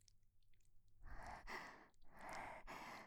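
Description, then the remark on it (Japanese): Heavy, rapid panting breaths of a middle-aged man breathing hard because of medicine, two or three ragged in-out cycles of breathy rushing air with a brief catch between them, no words spoken. “お薬のせいで、はぁはぁ息荒げてるおじさん。”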